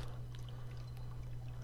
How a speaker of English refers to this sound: They're pouring wine.